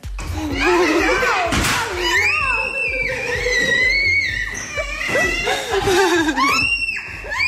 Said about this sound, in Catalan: i agafa els regals, fa, per exemple, una puntada de peu a l'arbre de Nadal, entra així amb gran violència i marxa corrent, deixant els nens cridant i plorant histèrics.